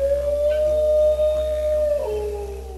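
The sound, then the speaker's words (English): A dingo lets out one long, mournful howl, holding a steady pitch before sliding lower near the end. It is loud, with no other voices. “from the squeaks and grunts of the koala to the barks and howls of the dingo.”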